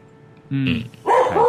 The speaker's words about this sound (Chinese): 系啊， 梗啦，听到你又只狗喺度吠，梗系兴奋啦。